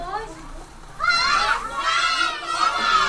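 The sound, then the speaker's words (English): A classroom of first graders, Syrian children at a refugee camp school in Kilis, southeastern Turkey, shout a welcome in Turkish to visitors in unison, loud, their high voices rising in two drawn-out bursts after a brief quieter moment. “First graders yell welcome in Turkish to classroom visitors.”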